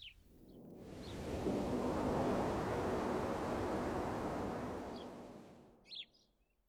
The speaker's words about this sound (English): You said that if I put it to my ear, I'd hear the sea.